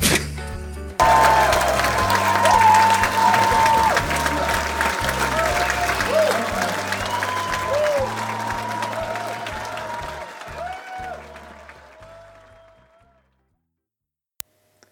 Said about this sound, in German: Applaus bitte.